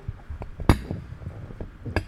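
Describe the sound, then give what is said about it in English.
Glasses clink together in a toast: one sharp, loud clink, then a second bright, ringing clink a moment later, with soft handling noise between and no voices. “Cheers. Cheers, man.”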